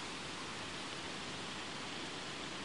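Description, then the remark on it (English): Steady, even rushing of water from a woodland stream at Hackfall tumbling over a series of small cascading waterfalls down towards a river, a continuous hiss with no pauses, fairly soft, with no voices. “because once again, as we're leaving the river behind, here at Hackfall, the only way is up, as we follow another stream with a series of cascading waterfalls heading in the opposite direction to me, down towards the river.”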